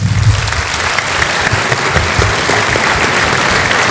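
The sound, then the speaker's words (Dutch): An audience applauds an audience member seated at the front, steadily, a dense wash of many hands clapping at once, loud and sustained for several seconds with no pause and no one speaking over it. “Nou, dames en heren, mogen wij een applaus”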